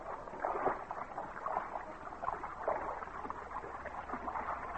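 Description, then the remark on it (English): Irregular sloshing splashes of feet wading across a stream while trying not to splash, rising and falling in uneven bursts over a steady rush of moving water, with no voices. “Here's where we cross. Don't splash any more than you can help.”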